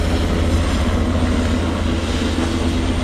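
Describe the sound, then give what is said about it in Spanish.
A Super Puma helicopter flies overhead with a steady, loud, deep rotor and engine roar that holds constant throughout, layered with a broad whooshing hiss and no voices. “Esos 1.054 medios aéreos son un super puma.”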